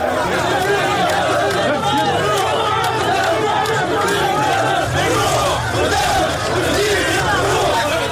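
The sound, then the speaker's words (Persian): A dense crowd of supporters walking with Tunisian President Kais Saied in a street at night chatters and murmurs continuously, many overlapping voices forming a steady, loud babble with no single speaker standing out. “قیس سعید شب گذشته پس از آنکه تصمیم خود در زمینه خانه تکانی اساسی در عرصه سیاسی تونس را اعلام کرد، به خیابان رفت و چند قدمی در همراهی با هوادارانش در تاریکی شب قدم زد.”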